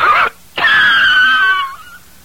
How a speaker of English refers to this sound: Actually, a less powerful cigarette cough can wreck your lungs pretty good. Like this.